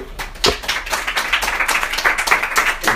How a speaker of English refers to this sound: And everyone give him a round of applause.